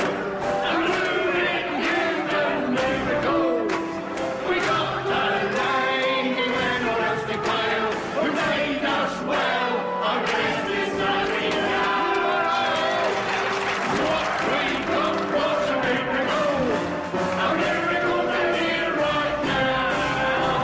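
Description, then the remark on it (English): A large theatre audience applauds and cheers loudly and steadily for about twenty seconds for Florence Nightingale on stage as she raises her lantern, dense clapping mixed with shouting voices, sustained with no pause. “Florence Nightingale on stage raises her lantern, beaming in delight at the applause.”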